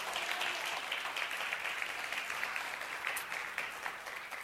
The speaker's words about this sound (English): Would you clap your hands for Jesus one more time?